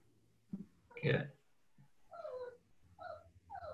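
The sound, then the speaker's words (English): A puppy whimpers and yelps in a room, one rough bark-like burst followed by several short, high, rising whines, fairly quiet against a low background hum. “Whose dog is that? My puppy, sorry. I've got little puppies in the room with me.”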